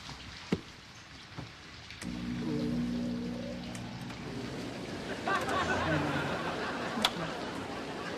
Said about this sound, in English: Dear, the sound of that rain is going to keep me up all night. I'm amazed you can hear it over there in Mission Control.